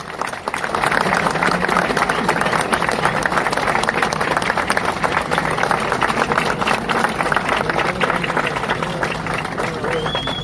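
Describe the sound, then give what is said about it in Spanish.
A crowd bursts into loud, sustained applause for the intendente (mayor), a dense wash of many hands clapping at once that holds steady for about ten seconds with a murmur of voices underneath. “Entonces yo realmente, así como recién lo aplaudieron, ahora sí les pido un fuerte aplauso para el intendente.”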